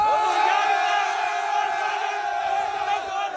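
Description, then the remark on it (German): A rapper and his followers cheer and shout together in a sustained, loud roar of many voices, with overlapping higher-pitched yells riding on top throughout. They are reacting to a singer allowing his song to be legally covered. “Das ist also die Reaktion bei … und seinen Getreuen.”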